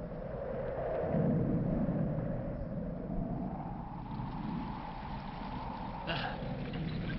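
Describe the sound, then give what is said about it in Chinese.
A storm with lightning, strong wind and rain under dark clouds roars steadily, with dense hissing rain and wind over a deep, continuous rumble, swelling in the first seconds and flaring briefly near the end. “马车备好时，天空黑云密布，闪电大风带来了雨。”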